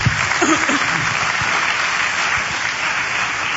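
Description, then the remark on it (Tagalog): A church audience applauds the Lord loudly and steadily, dense clapping throughout the whole stretch with a few faint voices mixed in. “Sa pangmalakas sa palakpak sa Panginoon.”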